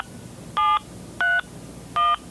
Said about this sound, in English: Picking up the phone. Dialing.